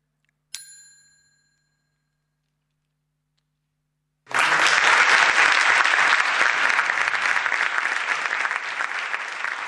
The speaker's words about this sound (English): Sorry, the applause is very loud.